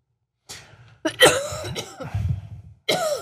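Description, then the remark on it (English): A run of harsh coughs, about four bursts in quick succession with short raspy gaps between them, loud and with no talking. “Yeah, so, a cough on the show, I would never.”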